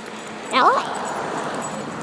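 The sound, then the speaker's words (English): A dog being walked back from the vet gives one brief, high-pitched whimper, a quick wavering whine, then it fades into steady outdoor background noise. “and I'm sure these dogs are going to be a wee bit jiggered.”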